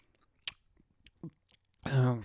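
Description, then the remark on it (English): A few sharp mouth clicks and crunches, then a loud voiced, drawn-out noise, like someone exaggeratedly imitating noisy chewing of popcorn or candy at the microphone. “And I'm sorry for everybody that just had to hear that right now, especially if you have headphones on and you're listening like at work or something.”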